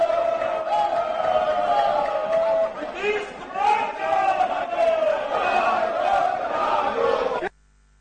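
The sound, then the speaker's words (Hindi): A loud, continuous uproar of many opposition legislators shouting at once in a state legislative assembly (Vidhan Sabha) during Question Hour, while Speaker Nand Kishore Yadav continues the proceedings. Overlapping voices rise and fall in waves for about seven seconds before cutting off abruptly. “विधानसभा अध्यक्ष नंदकिशोर यादव ने हंगामे के बीच ही प्रश्नकाल की कार्यवाही जारी रखी।”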